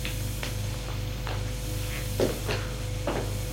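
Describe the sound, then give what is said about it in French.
A door being opened: a handful of short, soft clicks and knocks from the latch and handle, spread unevenly over a few seconds above a steady low hum, with no voices. “La porte s'ouvre.”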